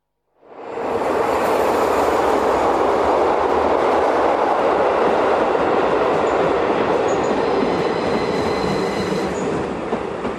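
A train rumbles loudly and steadily through Afur railway station, wheels clattering with faint metallic squeals on top. The sound starts abruptly, then stays strong without any voices.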